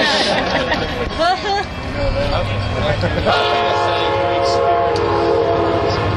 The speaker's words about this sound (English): And I was just talking. I bet the train's going to go right by when I'm talking to you.